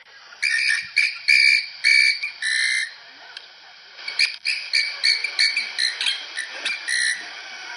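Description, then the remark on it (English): A llama's alert call to the other llamas: a run of shrill, whistling squeals repeated over and over in quick uneven bursts, loud and high-pitched, with no talking. “This is a llama doing kind of like an alert call to the other llamas.”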